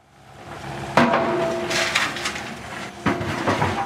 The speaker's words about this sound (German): Die Baggerschaufel wühlt sich schon frühmorgens in den trockenen Boden. Es riecht nach Erde und Staub auf dieser Baustelle mitten in Frankfurt.